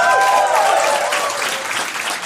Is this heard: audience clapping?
yes